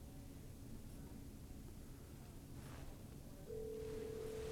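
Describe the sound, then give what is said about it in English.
Over a low, steady background rumble, a loud electronic phone-ring tone of an incoming call suddenly starts near the end and holds steady, played through the speakers. “I have my phone with me. It's not my phone, that's in the speakers.”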